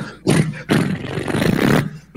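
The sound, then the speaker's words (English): Michael Winslow imitates a roaring car engine with his voice: a short gritty burst, a brief break, then a longer loud, rumbling rev that holds steady before cutting off. “The way no car has sounded since 73.”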